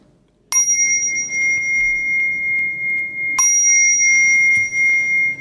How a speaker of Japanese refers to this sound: でもその、それだけの願いを込めてくる鐘、そんな音を響かせていきたいですね。